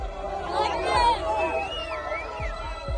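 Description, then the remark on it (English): Crowds of Palestinians in the city of Rafah, in the southern Gaza Strip, cheer and celebrate news that Hamas had accepted a ceasefire agreement, many voices shouting over one another in a steady, dense roar, with high whistle-like tones gliding up and down above the din. “In the city of Rafah, in the southern part of the strip, crowds of Palestinians cheered.”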